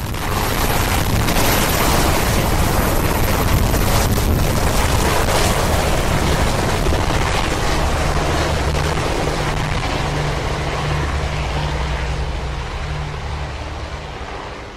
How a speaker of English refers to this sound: Then, the first family leaves the Capitol by helicopter.